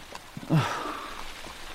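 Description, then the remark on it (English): Steady rain hisses evenly throughout, soft and continuous, with a brief breathy, sigh-like sound rising over it near the start. No one speaks. “Gloom. Rain. On and on.”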